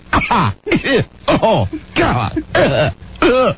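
A person coughs repeatedly in a fit, six or seven harsh, throaty bursts in quick succession, loud, with brief gasping pauses between them.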